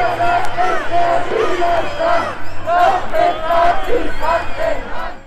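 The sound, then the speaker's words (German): A large crowd at a Monday evening protest march and counter-demonstration meeting at Neumarkt in Cologne shouts and chants in loud, rhythmic waves, with booing and shrill whistles cutting through the steady roar of many voices. “Von Buhrufen, Sprachchören und Pfiffen abgesehen, verlief die Konfrontation aber ruhig.”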